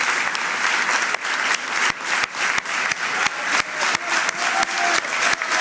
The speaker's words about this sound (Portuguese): O aplauso continua para Jorge Nuno Pinto da Costa.